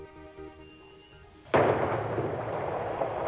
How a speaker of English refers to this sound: A neighborhood in Holladay was stirred awake early this morning by the sound of an explosion. Here's what they heard.